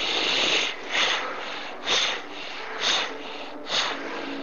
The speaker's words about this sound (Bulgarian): Просто си поемаш дъх мощно през носа, пускаш дъха два пъти по-бързо от вдишването и пак вдишваш и пускаш, вдишваш и пускаш.